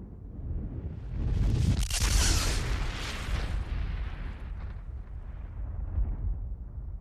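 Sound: loud explosion boom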